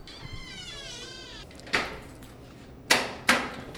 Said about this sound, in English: I stayed in that room right there. It's, it was like a storage room. I'll open this door here.